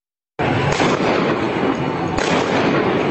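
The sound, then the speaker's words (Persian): Gunfire in a street in Iran, from a shooting video released by Iranian state media: two sharp, loud cracks about a second and a half apart, rising out of a constant harsh, distorted roar of noise, with no voices. “رسانه‌های حکومتی این ویدیو را منتشر و ادعا کردند که 2 موتورسوار داعشی تیراندازی کردند که به کشته شدن 9 نفر انجامیده.”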